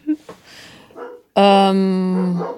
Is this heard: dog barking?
yes